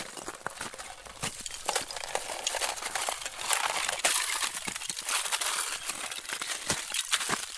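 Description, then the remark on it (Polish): Ice breaking, with a dense, continuous crackle of sharp snaps, crunches and tinkling shards that keeps going without pause and without any voices, recorded on a garden plot in Podlasie, Poland, during a harsh winter. “I żeśmy sobie zrobili spacer i pewnego dnia jakoś tak, nie pamiętam już kto z nas stwierdził, że można by nagrać w sumie taki efekt i ten lód się rozbija.”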